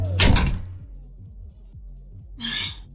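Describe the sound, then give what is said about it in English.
A door is pushed shut with a solid thud, followed by a low lingering rumble and, a couple of seconds later, a short breathy exhale. “Shut the door.”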